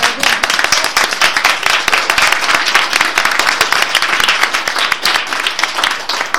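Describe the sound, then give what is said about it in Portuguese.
A crowd applauds steadily for several seconds, dense overlapping claps forming a loud, even wash of sound with no pause and no voices standing out. “A mí gustaría que coben que se portaron rapaces, que nos y aplaudiéramos a ellos, porque se portaron muy bien, ¿eh?”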